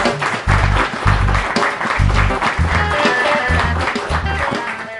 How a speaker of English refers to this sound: So once again, a nice round of applause for those folks, and we can go ahead and get started.